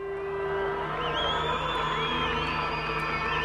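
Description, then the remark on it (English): A dense, steady roar of crowds of ANC supporters in South Africa celebrating the ruling party's expected decisive victory in its parliamentary election, with cheering voices and shrill whistles rising and sliding above the continuous din throughout. “You can hear the crowds and supporters of the ANC already celebrating, but officially the results won't come out until Saturday.”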